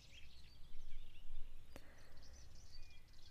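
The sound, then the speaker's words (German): Faint birds chirp and twitter in the surrounding area over a low, steady outdoor rumble, with a single sharp click partway through and no one speaking. “Hör kurz die Vögel hier in der Umgebung.”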